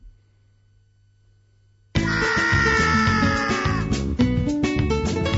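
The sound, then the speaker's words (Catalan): After about two seconds of near silence, a shrill, cartoonish scream of the rabbit characters from a Rayman video game bursts out at the start of soundtrack track 3, over loud, busy game music that carries on to the end. “Aquests personatges que criden així... Ratolí, el conillet. Són els conills aquests que de conillets bonics no tenen res.”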